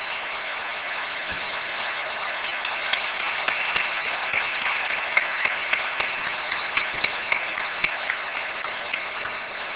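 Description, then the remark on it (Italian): An audience applauds two representatives of their profession, steadily for the full length, a dense wash of many hands clapping with sharper individual claps popping out, growing slightly fuller toward the middle and end. “Vorrei pubblicamente ringraziare e rendere, forse sarà ancora poco, un altro applauso a questi due rappresentanti.”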